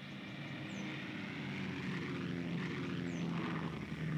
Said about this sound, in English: The biplane, with its two open cockpits, climbed high enough for the parachute jump.